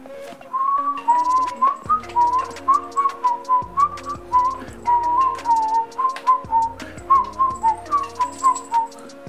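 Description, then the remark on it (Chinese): A man whistles a lilting, wandering tune, phrase after phrase, while swinging an amulet with a broken cord and walking toward No. 18 Yeyu Street, over a soft musical backing with light ticking percussion that runs the whole way through. “男人吹着口哨，甩着绳子断掉的护身符，走向夜雨街18号。”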